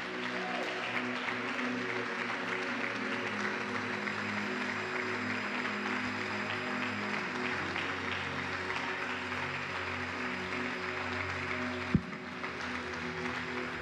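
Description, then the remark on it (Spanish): An audience applauds steadily for the King of Glory, a dense wash of clapping that holds at an even level for the whole stretch, with a single sharp knock near the end. “Damos un fuerte aplauso al Rey de Gloria.”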